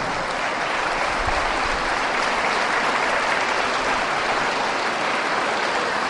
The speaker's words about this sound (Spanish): Por ejemplo, allá hay dos monjitas, ¿ve? ¿Ve? Hay que querer a las monjitas. Déjense ver, monjitas, para que se les dé un aplauso. Las monjitas.